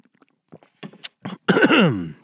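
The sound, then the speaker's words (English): Soft slurping and gulping noises as someone sips and swallows water, followed by a loud, drawn-out satisfied vocal exhale. “Take a sip of this fine, high-quality H2O.”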